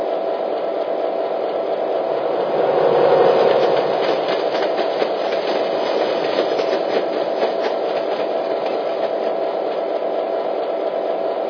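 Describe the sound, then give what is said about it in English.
A passenger train rolls past on the rails near mile post 30, passing a train waiting on a siding. A steady loud rumble with rapid rhythmic clacking of wheels over track joints swells briefly and continues throughout. No one speaks. “We've got a passenger train. I have to let him in front of you, over.”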